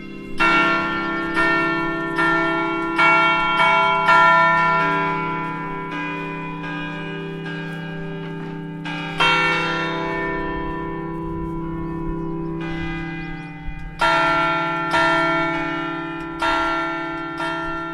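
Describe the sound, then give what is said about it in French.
Church bells of Fontevraud Abbey, fitted with louvred sound-deflectors, peal loudly close by in the abbey gardens, a series of rich overlapping strikes in an irregular rhythm, their long resonant hum sustaining between hits with no voices present. “Et en effet, elles sonnent.”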